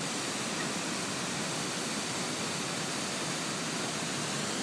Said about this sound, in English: And this is the Estonia's largest waterfall. I mean, not the largest, I think it's second largest waterfall. And yeah, we're here. It's half under the ice still, although it is in the middle of April.